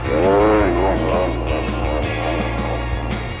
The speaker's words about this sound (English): The voice of an Indian elephant.